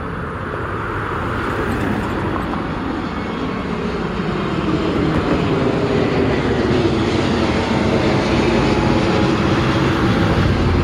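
airplane flying overhead

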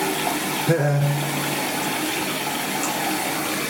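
water running

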